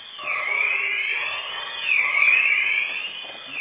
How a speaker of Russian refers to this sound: Проверяют эту сигнализацию, поэтому все.